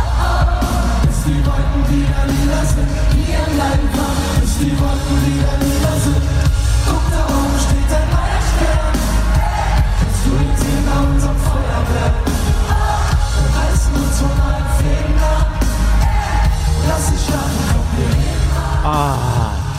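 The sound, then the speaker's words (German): A large, loud concert crowd in the Max Schmeling Halle in Berlin roars and cheers steadily, with shouts and whoops rising out of a dense wash of noise that fills the whole stretch without letting up. “Einen riesengroßen Berliner Applaus für das Plattenhaus. Das war in Berlin, Max Schmeling Halle.”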